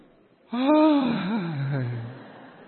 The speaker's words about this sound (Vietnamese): Ví dụ như lúc nãy ở xóm này này, có một người ngáp ở đây tôi nghe này.